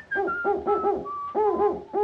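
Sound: owl hooting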